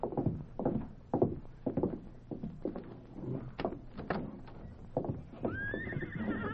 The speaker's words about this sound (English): Oh, what a beautiful horse.